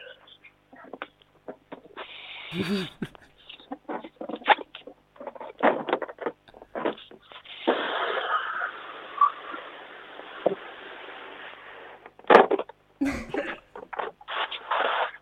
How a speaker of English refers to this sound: If you could please blow up the balloon.